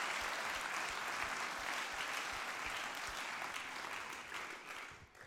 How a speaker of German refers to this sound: Hey, gebt denn noch mal einen riesen Applaus, dass wir alle miteinander diese Serie starten können.